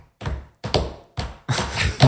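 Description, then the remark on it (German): Feet stomping on a floor out of rhythm, recreating people dancing at a silent disco to music heard only through headphones, each stomping in their own rhythm: four heavy, thudding stamps at uneven intervals, the last one longer and scuffing, with no music. “Man hört nur die Leute trampeln, aber man hört keine Musik.”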